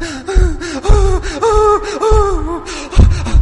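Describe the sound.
A voice imitates choked sobbing: wavering, whimpering cries broken by sharp gasping breaths, several convulsive sobs in a row, fairly loud and alone with no talk.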